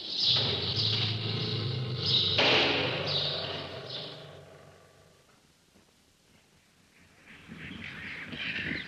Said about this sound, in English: Well, we're just passing a cage with some birds called Quaker parakeets, which are simply enormous, and they make quite a lot of noise. It must be because we're walking by.